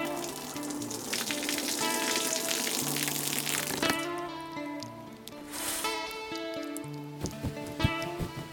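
Steady hiss of shower water running, with a soft tonal hum underneath, even, briefly thinning midway before the spray swells again.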